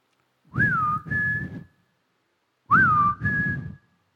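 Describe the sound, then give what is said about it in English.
A person whistles the same two-note call twice, each a rising swoop followed by a steady held tone, with a short pause between the two calls. It is clear, with no talking. “I'll look for you on the left side and listen for my whistle.”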